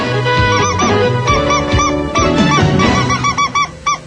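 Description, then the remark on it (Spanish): A yellow bird-shaped toy drinking cup for children whistles loudly in a quick run of honking, chirpy bursts, with a steady tonal backing underneath and no talking. “Vasorbito en el pajarito amarillo para divertirte tomando tu alimento. ¡Canta y chifla!”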